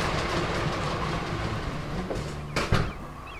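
A handle-making machine at the Persson Innovation factory in Kumla runs with a steady, loud mechanical rumble, punctuated by a few sharp clicks toward the end, each click a new handle. No one speaks.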